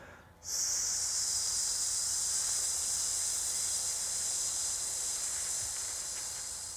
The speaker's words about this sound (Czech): A nejdříve si uděláte 5 balonků na S. Budu vám to počítat, budete vydechovat zasyčení.